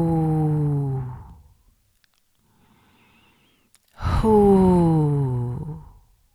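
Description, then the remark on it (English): Two long, voiced "hoo" exhalations of the qigong spleen healing sound, fairly loud, each gently falling in pitch, separated by a quiet pause with a faint inhale. “Spleen sound is whoo. Hoo.”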